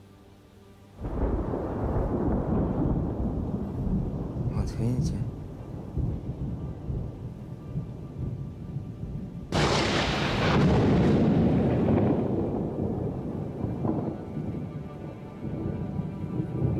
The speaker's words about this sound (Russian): Когда он в нее садится, начинает грохотать и сверкает молния.